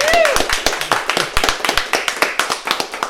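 Audience applause after this year's scholarship winner is announced: a dense, steady patter of many hands clapping at a lively pace, fairly loud throughout, with a brief whistle-like tone near the start and no clear speech.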